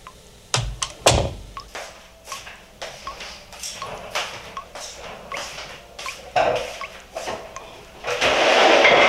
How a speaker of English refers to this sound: In fact, can we just bring that up? I want to play the opening of this. You literally will hear a guy walking into a room and the water dripping and all that. But listen to what transpires.